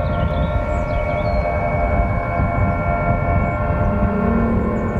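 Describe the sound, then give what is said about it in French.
An aeolian harp played by the wind alone: steady, droning chords of many high overtones hum together over a rough low rush of wind, holding at an even, fairly loud level with slight wavering swells throughout. “Car il ne s'agissait pas d'une lyre ou d'une cithare dont il aurait lui-même pincé des cordes, mais d'un instrument élémentaire, d'une harpe éolienne dont le vent serait le seul exécutant.”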